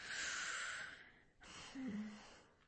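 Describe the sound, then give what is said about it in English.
A deep, drawn-out breath in, a short pause, then a long slow breath out with a faint voiced hum, fairly loud, from someone doing breathing exercises. “Or I must do a few breathing exercises.”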